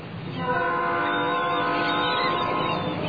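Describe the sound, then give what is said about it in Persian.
A sustained train horn blares steadily for about three seconds, a loud chord of several stacked harmonic tones holding a constant pitch over a rumbling low background. “بعد صدای بوق قطار می‌داری؟”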